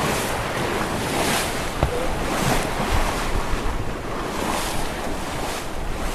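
Steady wind and rushing sea water surround a sailboat sailing close-hauled in an 8–10 m/s west-northwesterly wind, sails tight and the boat heeling, with occasional splashes of sea spray amid the constant whoosh of waves and microphone wind noise.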